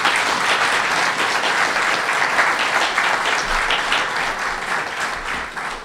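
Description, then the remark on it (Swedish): An audience applauds steadily for about six seconds, a dense wash of many hands clapping at an even, loud level, tapering slightly toward the end with no voices over it. “Jag tycker vi kan ge dem en applåd.”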